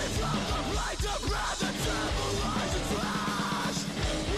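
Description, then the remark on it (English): A loud, dense metal track with harsh screamed vocals over distorted guitars and rapid, relentless drumming that sounds like blast beats, filling the whole passage without a break. “Good screaming. Blast beat.”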